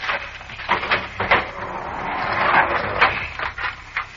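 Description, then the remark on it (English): A door is unlocked and pulled open: a series of sharp metallic clicks and rattles, then a longer scraping, creaking slide, fairly loud with no talking. “Just a moment till I unlock this door.”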